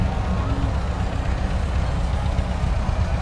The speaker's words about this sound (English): Behind them, we got some of the tractors making their way through. Always love to see these old tractors make their way through.